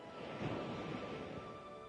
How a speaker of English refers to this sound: Also, you may listen to the waves and feel the calmness that it brings by going in and out.